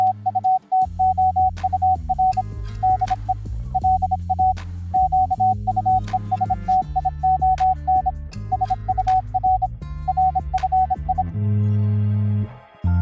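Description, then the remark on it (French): A steady, high tone pulses on and off in short and long Morse code beeps that encode a program's closing theme, made by its director, for about eleven seconds over a loud musical backing, which ends on a held chord. “Et pour aller encore plus loin et nous amuser nous aussi un petit peu, Thibaut Baduel, notre réalisateur, a même codé notre indicatif de fin. Vous le reconnaissez ou pas ?”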